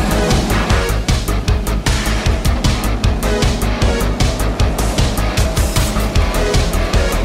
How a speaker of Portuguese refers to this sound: Desamarre a lancha! Deixa comigo! Aqueça os motores, parceiro! Estava com saudade de ouvir o ronco dessa belezinha.